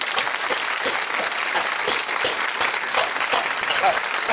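A crowd applauds steadily for several seconds on the Sabonzi Web Show, welcoming two champion guests, dense overlapping claps spread evenly throughout with a lively, roomy texture.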